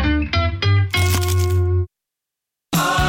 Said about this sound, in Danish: Det her var et forsøg på at tage en lydløs bid af den nye knasende kyllingeburger McCrispy. Desværre fejlede det.